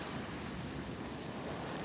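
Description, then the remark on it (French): A loud, steady roar of rushing water fills the whole moment, a dense wash of churning water and sand from a giant wave created by an explosion, with no distinct single impact and no voices. “L'explosion crée une gigantesque vague d'eau et de sable.”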